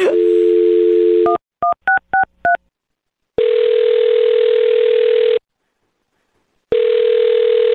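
A steady telephone dial tone, then a quick run of five DTMF keypad beeps as a woman's phone number is dialed, followed by two long ringback tones separated by silence, all clear with no talking.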